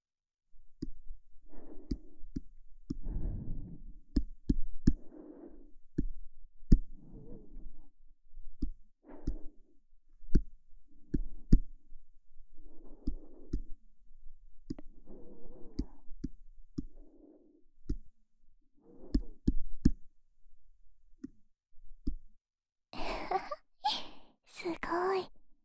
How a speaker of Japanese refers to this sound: 指先でトントンしてみたり、トントン、トントン。